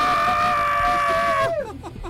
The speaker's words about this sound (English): Vancouver Mixtape, let me hear you scream!